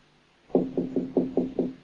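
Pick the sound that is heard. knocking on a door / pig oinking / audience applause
knocking on a door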